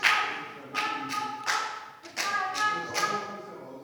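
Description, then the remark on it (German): Scattered applause from the visitors' gallery of a parliament chamber after a speech: a handful of sharp, uneven claps rising out of a steady murmur of background noise, moderately loud, with no clear speech. “Hier unten im Haus kann man applaudieren, kann man auch mal zwischenrufen, aber Sie sind Publikum und müssen sich entsprechend verhalten.”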